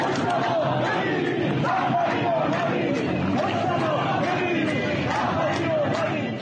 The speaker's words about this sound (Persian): معترضان به کشته شدن مهسا امینی در رشت ماشین پلیس را آتش زدند و علیه مجتبی خامنه ای شعار سر دادند. صدای این معترضان در رشت را بشنویم.